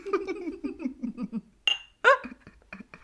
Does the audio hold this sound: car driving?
no